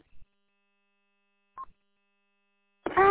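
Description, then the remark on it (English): A single short, mid-pitched beep from a local radio repeater, the single beep marking a local rather than remote connection, sounds once in near silence, with a faint steady tone underneath, followed at the very end by the start of a voice. “You can tell I'm local because of the single beep, and you're also on my machine.”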